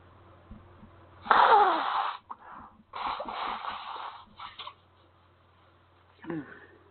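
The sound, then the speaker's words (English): Someone blows their nose, two long, loud honking bursts a moment apart, followed by a quieter sniffle near the end. “Blow my nose. Excuse me for the sound.”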